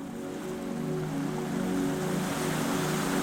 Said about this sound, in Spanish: Puedes escuchar el mar con mayor nitidez